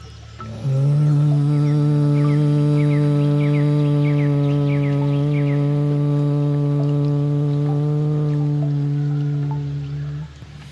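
A single sustained human hum on one steady low pitch, loud, made during a breathing exercise with the hands held by the stomach, starting after a brief pause and holding for about ten seconds before fading out, with no talking.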